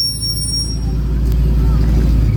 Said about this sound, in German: Ist das der Bus der Kushal-Schule? Ja.